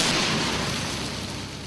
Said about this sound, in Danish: Drop the rubidium in the water. Stand back, everybody. This one's gonna be bad.